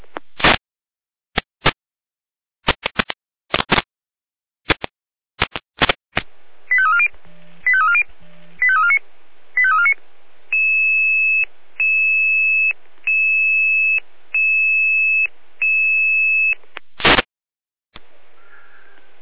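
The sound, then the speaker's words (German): Fire brigade alerting tones: sharp clicks and bursts, then a short series of warbling chirps, followed by six steady, evenly spaced high beeps and a final loud burst. No one speaks. “Beginner mit Alarmierung.”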